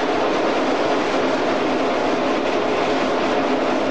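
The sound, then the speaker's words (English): A train slowing to 35 miles an hour as it approaches Ealing Broadway Station rolls along with a steady, loud rumble and broad hiss, a continuous wash of wheel and track noise with no voices and no clear change in pace. “Speed is still coming down, it's down to 35 mile an hour.”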